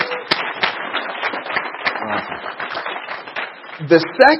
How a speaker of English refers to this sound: The first reason is because someone wants to see you and your family protected with these great benefits, and that deserves a round of applause. Give it up for the person who invited you out.